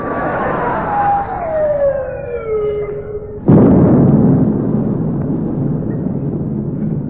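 A shell whistles in with a long falling pitch, then a single loud explosion bursts and rumbles away with a long, rough decay: naval gunfire from the rest of a fleet of ships, firing at a ship.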